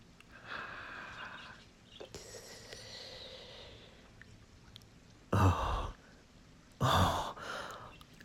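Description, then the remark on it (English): Ragged, heavy breathing: soft, uneven breaths at first, then two loud, rough exhales a second or so apart, each a sharp breathy burst that fades quickly. No one speaks. “Oh, your breathing is getting ragged.”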